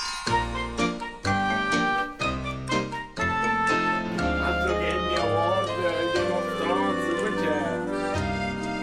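The theme tune of Once Upon a Weird opens loud and full with punchy chords about once a second, then swells into sustained, wavering melodic lines over a steady bass, bright and continuous throughout.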